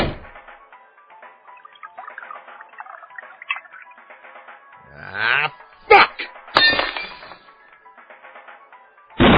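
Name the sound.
glass breaking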